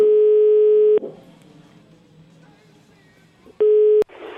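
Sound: telephone dial tone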